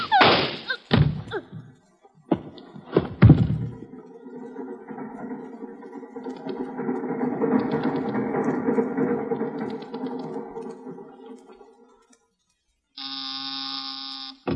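A few heavy clunks and thuds, then a long rumbling slide with a grinding tone as a train compartment door opens, ending in a short steady electric buzz.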